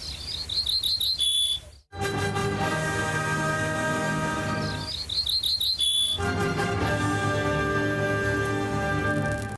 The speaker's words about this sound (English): That is extraordinary, the song of this little ortolan bird, which is part of R.M. Kavanagh Rasher's exhibition, upcoming exhibition, Don't Anger the Gods. There it is. It quite definitely is the first three notes of Beethoven's Fifth Symphony.